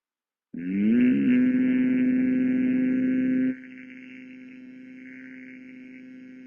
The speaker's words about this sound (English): Exhale, hum. Inhale. Exhale, hum.